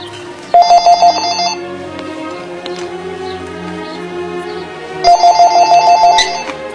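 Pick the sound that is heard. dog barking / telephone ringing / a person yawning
telephone ringing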